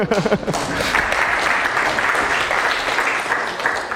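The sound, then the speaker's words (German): An audience breaks into steady applause lasting a few seconds, a dense even patter of many hands with no clear rhythm, after a brief voice at the very start. “Und ja, ihr hättet jetzt klatschen können, habt es nicht gemacht.”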